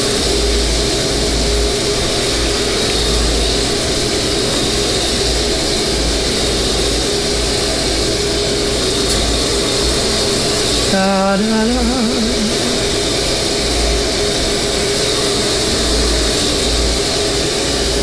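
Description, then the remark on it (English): A washing machine with its lid open fills with water for a full load of laundry, a loud, steady rushing hiss over a low mechanical hum that never lets up, while a voice briefly sings a few syllables partway through. “I hope you can hear me with the water running in the background.”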